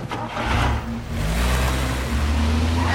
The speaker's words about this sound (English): Sandra's car screeches into the road.